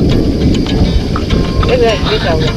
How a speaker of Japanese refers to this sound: 雷の音